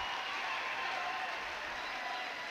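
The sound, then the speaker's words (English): The Tiger Den crowd roars and applauds steadily as a player waves to the fans, a dense, continuous wash of cheering noise at a constant level with no individual voices standing out. “waving at the fans to yell even louder.”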